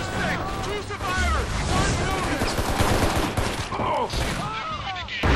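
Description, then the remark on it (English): Repeated gunshots in a first-person shooter video game crack in dense, overlapping bursts, each echoing off the hills outdoors and blurring into a long rolling tail, with shouting voices mixed in throughout. “If you fire a gun outdoors, it is echoing off of the hills.”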